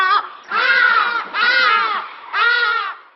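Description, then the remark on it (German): Loud, harsh hadeda ibis calls: a short squawk followed by three drawn-out, nasal, wailing cries with strong harmonics, separated by brief pauses, with no voices present. “Er hier gilt als der lauteste Vogel Afrikas, der Hagedasch.”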